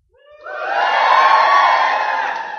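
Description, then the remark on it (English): A large audience, asked to give a shout of joy, erupts into a loud, sustained shout of cheering and whooping, rising quickly and holding for a couple of seconds, with no single voice standing out. “Let's do a shout of joy.”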